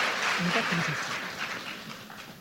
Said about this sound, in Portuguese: Aplaude os atores que eles vão descer.